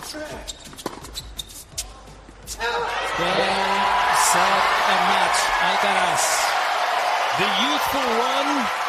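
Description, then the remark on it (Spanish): A few sharp, dry knocks sound over a low murmur, then a crowd bursts into loud, sustained cheering and shouting for Spanish tennis player Carlos Alcaraz at the US Open in the United States, with individual voices rising and falling through the roar. “Pero antes nos rendimos al que es ya una nueva estrella del deporte español, incluso una nueva estrella del deporte mundial, Carlos Alcaraz, al que vitorean así incluso en Estados Unidos.”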